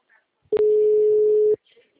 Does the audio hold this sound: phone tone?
yes